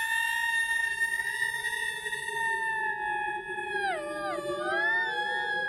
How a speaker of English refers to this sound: What the fuck is that? Sounds like the wind whistling through the shamrocks. Mother of Christ, the Banshee has come again as I knew she would. The Banshee appears in her full spooky glory.